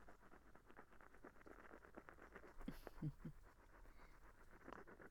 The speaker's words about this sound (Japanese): 何もないところではございますが、一日雨を眺めて過ごすのもおつなものではございませんか？